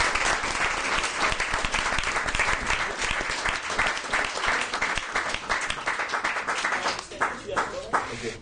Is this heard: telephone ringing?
no